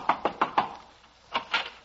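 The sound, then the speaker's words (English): Someone raps on a door four times in a quick, even rhythm, pauses, then knocks twice more. The knocks are sharp, moderately loud and hollow-sounding, with no voices. “I'll knock on the door.”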